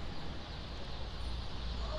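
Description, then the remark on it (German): A dense, continuous chorus of about 120,000 small yellow chicks, hatched five days earlier and waiting behind stacks of shoe boxes for onward transport as freight, chirping at once and blending into a steady bright twittering wash with no pauses, moderately loud. “Ich stehe vor 120.000 Adidas-Schuhkartons und höre plötzlich Vogelzwitschern. Hinter den Schuhkartons warten etwa genauso viele kleine gelbe Küken, die alle vor 5 Tagen geschlüpft sind, auf ihren Weitertransport.”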